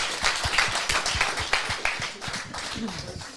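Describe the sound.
A crowd applauds with dense, steady clapping that holds at a fairly even loudness for a few seconds, sharper individual claps popping through, while voices murmur underneath.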